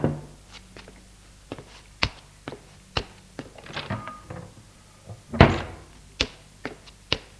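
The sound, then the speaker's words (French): Knocking on a bedroom door around midday: a series of sharp, hollow raps spaced irregularly, with a heavier thump partway through and a few more knocks after it. No voices. “Puis, vers midi, l'on frappa à la porte de ma chambre.”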